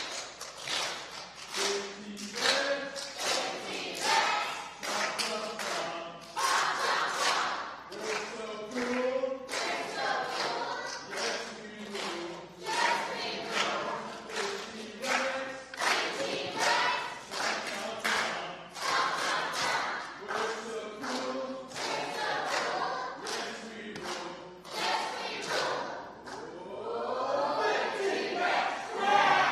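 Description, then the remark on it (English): The green team chants its team cheer in loud, rhythmic bursts of many voices shouting together, with some stomping and clapping mixed in, rising to a louder burst near the end. “We're going to do another one of those cheers.”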